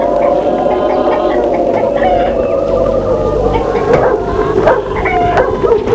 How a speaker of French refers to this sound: Mais un chien, grand, maigre et mauvais, accourt. Il aboie, il a l'air très mauvais, et sursaute.